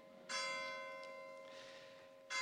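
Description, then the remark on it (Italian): A church bell rings out with two loud strikes about two seconds apart, the first one's rich metallic hum lingering and slowly fading before the next toll arrives. “Le campane mi dicono che devo finire.”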